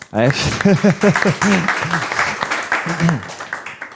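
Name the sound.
audience applause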